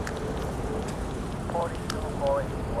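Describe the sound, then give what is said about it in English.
Ambience heard while getting near a subway station: a steady, dense wash of rumbling noise, broken by a few short, thin squealing tones that rise and fade, like metal on rails. “As you can hear, we're getting close to the subway station here.”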